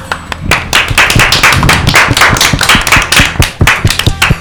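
A crowd of school pupils applauds steadily for several seconds for a guest guitarist, many hands clapping in a dense, irregular patter with sharp individual claps standing out, fairly loud and with no talking.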